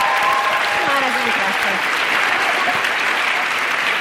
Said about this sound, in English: People are just used to clapping. I'm really good with it.